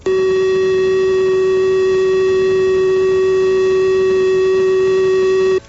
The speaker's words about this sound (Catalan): Mentre pel que fa al so final de l'alerta, que avisaria que l'emergència ha passat, seria aquest altre.